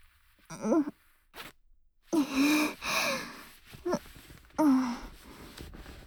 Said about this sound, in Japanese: ほら、ベルト緩めて。チャック開けるよ。